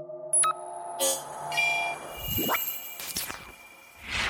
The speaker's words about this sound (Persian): کاکل طلایی کلاه مثل چراغ روشن شد و شروع کرد به بوق زدن.